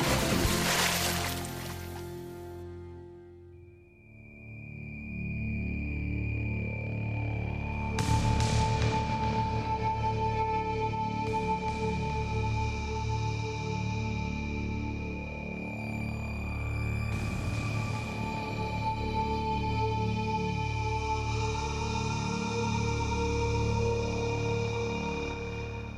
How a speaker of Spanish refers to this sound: Con esta música inquietante, bueno, y hasta con una reverberación que no sé ni dónde estoy metida,